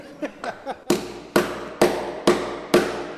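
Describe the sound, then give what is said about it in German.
A few light taps, then five heavy, evenly spaced hammer blows driving a wooden bung into an old sherry cask filled with new whisky, each strike loud and ringing slightly, with no talking. “die alten Sherry-Holzfässer über eine Pumpe mit neuem Whisky und schlagen schließlich mit dem Hammer einen Pfropfen aus Holz hinein.”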